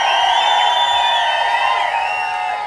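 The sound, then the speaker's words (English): An audience at a live show cheers and whoops without a break as Dale Gray is introduced, a dense roar of many voices with high shouts and whistle-like yells rising above it, holding steady and easing off slightly at the end. “Sounds like we got some people out there that want to make a little bit of noise tonight.”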